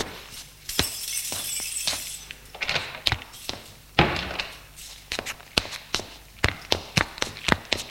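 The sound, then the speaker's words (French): A door clunks and footsteps come into a house on Rue Carrier in Saint-Martin-d'Hères, Grenoble, at 7 pm, with a sharp knock midway, then a steady run of crisp steps and small rattles. Nobody speaks. “Il est 19h, ils entrent dans la maison.”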